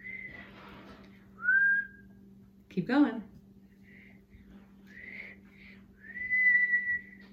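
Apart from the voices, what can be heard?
child whistling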